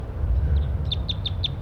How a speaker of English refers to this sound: And that's wild birds right there, perched in the oak tree above the net site. Stop. Start recording these wild birds' flight calls.